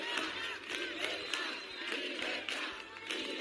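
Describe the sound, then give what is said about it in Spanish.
A dense crowd of protesters in Rivas, Community of Madrid, shouts and jeers continuously at regional president Ayuso, making demands such as for public healthcare, with sharp whistles cutting through the roar at irregular moments. The noise stays loud and steady throughout, without a single voice standing out. “donde la presidenta ha recorrido comercios, ha conversado con vecinos, pero también la esperaba otro grupo que la ha silbado y la ha reclamado, por ejemplo, por la sanidad pública.”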